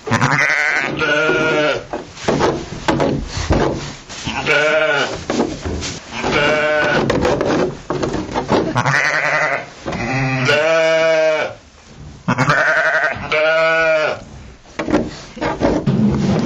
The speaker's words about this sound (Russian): Вот овцы, вот козы, а вот и верблюд.